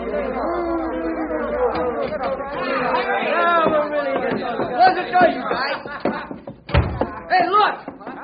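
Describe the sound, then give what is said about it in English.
A group of men talk noisily over one another, a dense babble of overlapping voices with a sharp thump near the end. “Quiet down, fellas. Quiet down now.”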